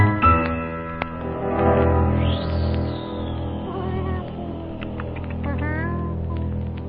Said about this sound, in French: Mettre le petit bout de la queue du chat qui a fait ce bruit-là.